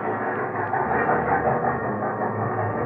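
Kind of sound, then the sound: vehicle, train pulling into station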